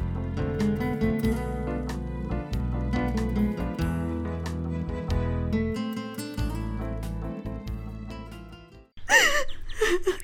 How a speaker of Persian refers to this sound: حال گریه نکو جان مادر